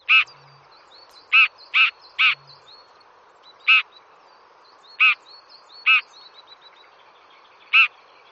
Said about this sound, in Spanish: Bueno, ¿y qué tiene este pájaro que tiene un gran nido tan feo para que le entusiasme tanto? No he oído la grabación. ¿Qué pájaro estamos hablando? Ah, pues del alcaudón dorsirrojo.